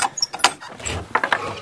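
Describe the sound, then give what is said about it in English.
Keys jangle and clink in a few quick bursts as a lock is worked and someone opens their own door, with a soft low shuffle between the bright metallic rattles. “This is my door.”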